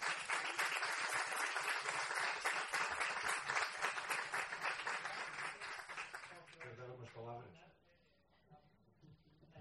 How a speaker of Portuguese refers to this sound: Un aplauso para Jerónimo Martins.